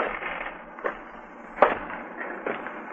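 A few sharp footsteps click on a street at an uneven pace, with one louder heel strike in the middle, over a steady hiss of background noise. No one speaks.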